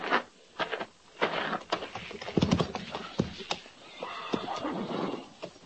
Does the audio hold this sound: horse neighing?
yes